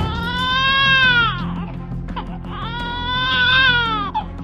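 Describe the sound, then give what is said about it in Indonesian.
A baby cries in two long, wavering wails separated by a short breath, loud, with a steady low hum running underneath. “Tiba-tiba terdengar suara tangis bayi.”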